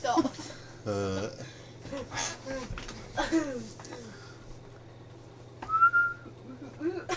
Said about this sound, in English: Nice one. I've got another one. I've got another whistle one. Whistle, whistle, whistle, whistle.